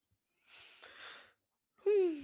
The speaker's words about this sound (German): Naja, sorry, dass hier als ins Mikrofon gähne. Ah, guck, gleich angesteckt.